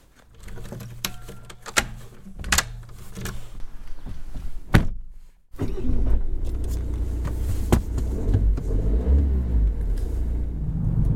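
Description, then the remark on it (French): A few sharp clunks and brief mechanical whirs, then after a short silence a steady low engine rumble fills the rest, like riding inside a moving car, driving to the village of La Grave. No one speaks. “Allez, c'est parti, je prends la voiture, je vais directement au village de la Grave qui est pas très loin.”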